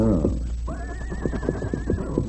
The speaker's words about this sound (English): Yes, I hear him now. One horse. That's right. Yeah, me see him. His horse without rider.